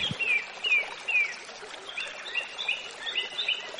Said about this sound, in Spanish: Claro, hoy estamos en el campo. Estamos en la montaña palentina. Fuente de Cobre. A la Fuente de Cobre, que es donde nace el río... Pisuerga, que es el río que pasa por Valladolid. Mirar los pájaros cantar.